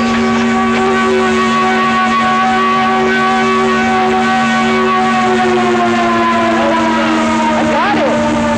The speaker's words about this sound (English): A few blocks past the bridge, the air raid siren started up full blast. It was unbelievable.